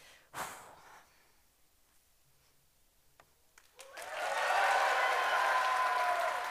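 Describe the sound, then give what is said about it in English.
Silence broken by a breathy gasp and a few faint clicks, then a sustained burst of dense audience clapping for a one-disc speed Tower of Hanoi solve swells in and holds loud through the end. “If you're clapping that hard for this, looking forward to what you do later.”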